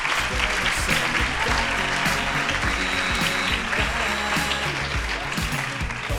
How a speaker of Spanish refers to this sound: Bueno, chicos, pues nada, muchas gracias por compartir con nosotros vuestra experiencia, vuestras inquietudes y pedimos un fuerte aplauso para despedirlos.